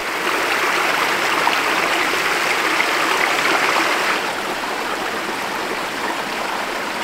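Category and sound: nature, flowing mountain creek water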